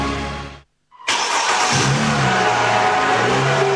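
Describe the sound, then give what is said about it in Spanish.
A car engine revs loudly, cutting out briefly to silence before roaring back with a strong, sustained growl that holds steady to the end. “Este año, el motor de tu auto no solo te mueve a ti, también levanta a cientos de familias afectadas por los incendios forestales.”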